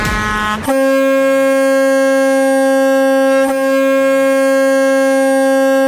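A loud truck air horn blares in one long, steady sustained blast, rich with stacked harmonic tones, preceded by a brief burst of noise and with faint dips along the way.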